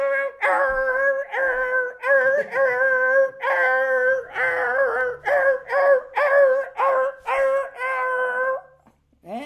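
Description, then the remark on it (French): A person imitates a dog howling, with a loud run of about a dozen wavering, whiny howls and yelps in quick succession, each pitched high and quivering, ending in a brief pause. “Le chien, c'est”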